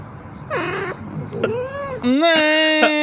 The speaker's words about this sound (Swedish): Det är alltså naken katter. Ja, men de gör så himla mysigt ljud när man väcker dem. Det gör de verkligen.